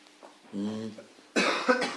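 A short voiced sound, then a loud, harsh cough burst that breaks into a couple of rough, noisy bursts before trailing off.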